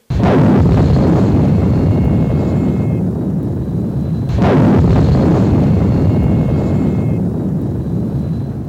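A volcano rumbles and erupts: two sudden loud blasts, about four seconds apart, each followed by a heavy, deep roaring rumble that stays loud throughout. No voices.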